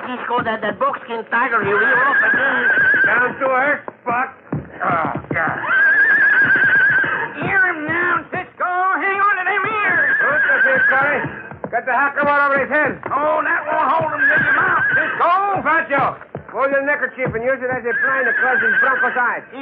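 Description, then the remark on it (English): A bronc horse neighs and whinnies repeatedly and loudly, with shrill, wavering calls and snorts following one another almost without pause, agitated. “That bronc will be crazy to kill Cisco after I slip this rowel under the saddle.”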